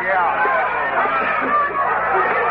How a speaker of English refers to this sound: I was passing the back door of the Texas Trail when I heard the first shot of the night. I entered the saloon from the rear and made my way into the crowd.